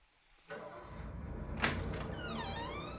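A large, heavy package is set down at the door of a house, with a rumbling, scraping rush of sound, a sharp thump partway through, and a squeaky, sliding tail, fairly loud.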